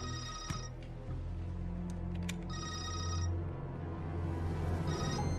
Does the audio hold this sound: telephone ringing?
yes